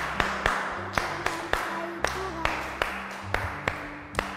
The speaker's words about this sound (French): Applaudissez pour l'autre.